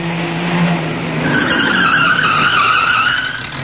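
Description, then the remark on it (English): A jeep's engine drones low and steady as it drives in Ceylon on the way to a commando depot, then a loud, drawn-out tire squeal of skidding rises over it and holds for a couple of seconds before easing off. “At this very moment, I'm in a jeep on my way to report to a secret commando depot.”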